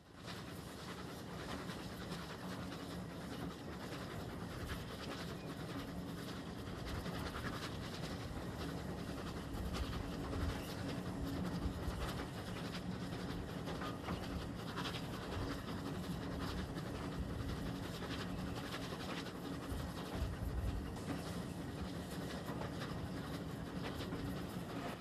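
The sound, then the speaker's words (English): A steam locomotive following the path of a river, leaving a wispy trail of smoke, rumbles along the rails in a steady, continuous roar, with rhythmic chuffing and clattering throughout at a fairly constant loudness. No one speaks. “The locomotive leaves a wispy trail of smoke in its wake as it continues to follow the path of the river.”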